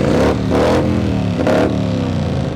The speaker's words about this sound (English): This is the Broken Spokes Loud Pipes Contest, where a bunch of bikes line up in the backyard of the bar and compete for best exhaust sound. The central identifying element of the Harley-Davidson is the sound of its exhaust.